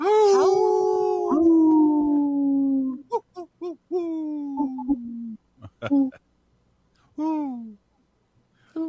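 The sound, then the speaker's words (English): A long, wavering howl that slowly slides downward in pitch, followed by several shorter, hooting calls in a broken rhythm, fairly loud, sounding more like an owl than a wolf. “That sounds more like an owl than a wolf.”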